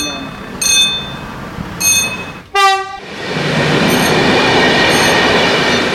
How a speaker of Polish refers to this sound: Centralnie torach najeżdża pociąg, wtedy jest gotowa kraksa, nie ma gdzie uciekać.